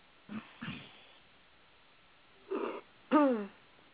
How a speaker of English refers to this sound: There's somebody yawning.